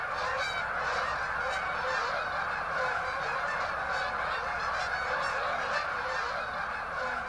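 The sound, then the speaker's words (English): A dense flock of geese honking continuously, countless overlapping calls forming a loud, steady chorus that fills the whole stretch with no pauses and no voices. “It certainly gets very noisy, and the numbers of the geese in prime time in about mid-October just gets overwhelming.”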